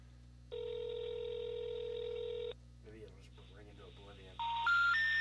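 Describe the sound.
Telephone tones over a speakerphone: a steady electronic tone holds for about two seconds, a voice speaks briefly, then a loud rising sequence of beeps follows.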